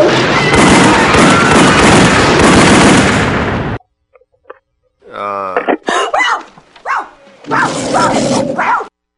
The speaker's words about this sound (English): Okay, who brought the dog?